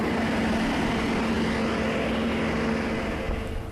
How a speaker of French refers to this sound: Et puis maintenant donc, vous entendez le son décroître et l'avion est en train de partir sur les taxiways pour aller prendre la piste.